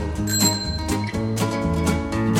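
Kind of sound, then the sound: signal or alarm, bicycle bell ringing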